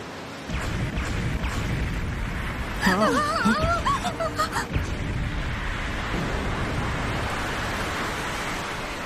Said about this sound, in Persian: اونجا رو نگاه کن، آب اقیانوس داره به سمت عقب میره. یعنی چه اتفاقی داره میافته؟